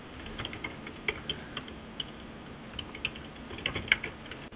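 Rapid typing on a computer keyboard with irregular clicks and a few sharper key taps, moderately loud over a faint steady background hum, with no voices.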